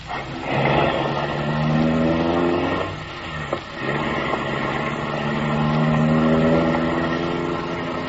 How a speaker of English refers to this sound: The car motor is idling.